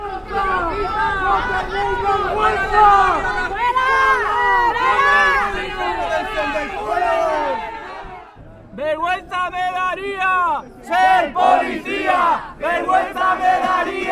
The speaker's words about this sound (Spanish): una veintena de los allí presentes mantuvieron la protesta contra el racismo institucionalizado e increparon a los agentes policiales con gritos de «fuera o vergüenza» en respuesta a la actuación que estaban llevando a cabo en el barrio.